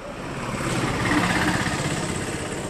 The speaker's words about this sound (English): The traffic is deafening on this arterial road in the South Indian city of Coimbatore. The sun beats down on the hot tarmac. Cars and motorbikes whiz past, honking impatiently.